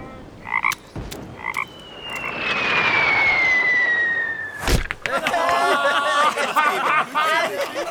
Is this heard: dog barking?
no